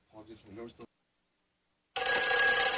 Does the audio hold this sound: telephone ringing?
yes